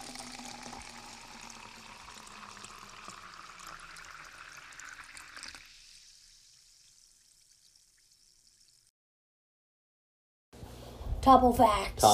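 A short 'Topo facts' segment sting jingle: a watery, pouring swirl tapers off into several seconds of silence, then a sudden loud burst of bright, tonal musical notes.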